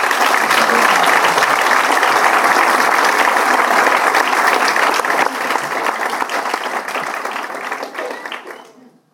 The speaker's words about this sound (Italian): La notizia Punto News la settimana scorsa ha intitolato da sindaco sceriffo a senatore e io credo che Cristiano Zuliani se merita un vero applauso.